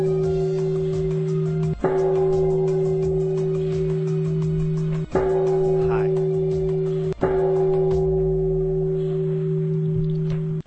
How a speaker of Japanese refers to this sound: まだまだありますが、煩悩の鐘が鳴りやまないので、この辺にしておきます。はい。ものすごい勢いで煩悩の鐘が鳴り響いてますね。